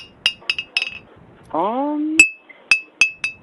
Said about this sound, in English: To bring my bottle in? Like an alcoholic beverage? It's like a glass bottle. Like, you hear it?